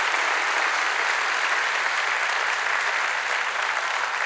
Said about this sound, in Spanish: Denle un aplauso al Señor por su amor y su misericordia.